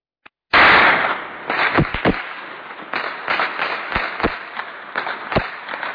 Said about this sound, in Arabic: مدينة حماة، حي الحميدية، 25/1/2012. اطلاق نار كثيف على حي الحميدية واستمرار القصف على الحي اليوم الثاني على التوالي.